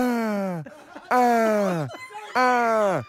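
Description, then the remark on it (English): A person imitates a tortoise's mating noise: three loud, drawn-out vocal moans, each sliding downward in pitch, separated by short breathy pauses. “I was stunned by that tortoise noise.”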